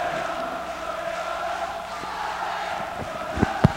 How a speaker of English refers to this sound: The crowd is going crazy. It's pandemonium. Holy cow! Crowd's going still wild, aren't they?